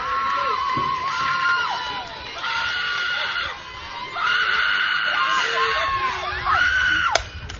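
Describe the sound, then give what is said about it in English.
A crowd of visiting Kingwood Park fans lets out loud, sustained high-pitched screeches in repeated waves, several voices shrieking at once over a steady background of stadium crowd noise. “And that one's going to be fouled to the right side as we're getting some absolute crazy screeches over from the visiting side.”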